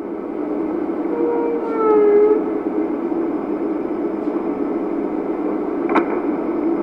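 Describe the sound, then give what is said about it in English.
A whale call rises in a short harmonic whistle-moan over steady underwater rumble, followed a few seconds later by a single sharp pop; no voices. “Scientists hope that the whistles, moans, and pops of the whales might help provide one more technological tool for that mix.”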